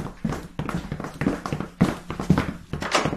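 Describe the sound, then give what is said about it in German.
A steady series of muffled footsteps, about seven thuds in an even walking rhythm, coming from the room overhead. The steps are moderately loud, with no talking over them. “Wir haben die Schritte doch alle gehört, oder?”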